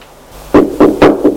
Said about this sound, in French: On a frappé à la porte. Entrez! C'est le domestique.